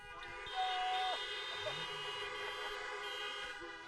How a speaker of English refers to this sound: On the count of three, at this parking lot at New Chapel, at almost noon on Independence Day weekend, I want us to, on the count of three, yell freedom and honk as loud as you possibly can.